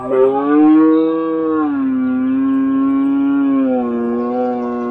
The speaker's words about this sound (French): À nous de prêter une oreille fine à ces nuances apportées, modulées, plus ou moins rauques et harmoniques, elles ont du sens. Le brame du cerf peut ainsi être langoureux, le son sera modulé, long et à sonorité claire.